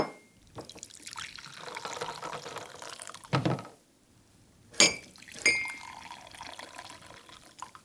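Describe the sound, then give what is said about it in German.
Coffee is poured steadily into the right-hand of two cups for a coffee tasting for a few seconds, followed by a short pause and two bright ceramic clinks. “Jetzt gieße ich die rechte Tasse ein.”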